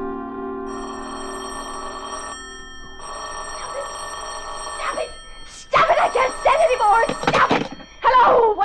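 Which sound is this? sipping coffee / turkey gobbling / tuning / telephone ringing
telephone ringing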